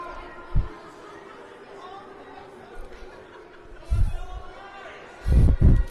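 A crowd at an ice hockey game boos a tripping penalty called against the Evergreens, a steady, low booing murmur throughout, with a few dull thumps breaking in, the heaviest cluster near the end.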